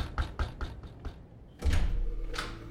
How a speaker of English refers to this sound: Just then, we arrived at Dr. Barrett's place and I knocked on the door.